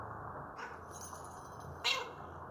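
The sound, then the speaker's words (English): A cat called Kitty Kitty meows over a steady background hiss, with a sharper, louder meow cutting through near the end. “Yeah, I'm coming, kitty kitty. Stupid name for a cat.”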